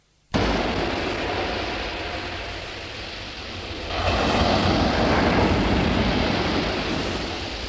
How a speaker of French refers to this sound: La porte de la maison s'ouvre et laisse entrer le bruit de la mer.